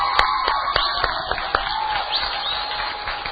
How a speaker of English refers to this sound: And so, yes, give her a round of applause as well.